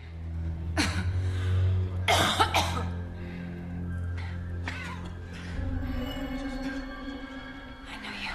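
A person coughs several times in harsh bursts, catching their breath between them, while reviving from unconsciousness as fresh air wafts over them, over a steady low hum of background noise.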